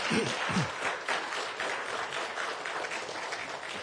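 A crowd applauds steadily, a dense wash of many hands clapping at an even level throughout, with a brief murmur of voices at the very start, as a speaker is welcomed to give a sermon.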